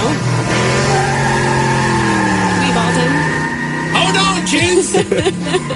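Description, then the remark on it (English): A car engine roars at full speed, its pitch rising and falling as it revs hard and accelerates, loud, with a brief squeal of tires near the end. “And then I did see other cars going full speed. Yes, like that.”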